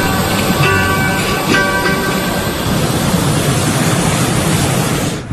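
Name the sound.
strong wind blowing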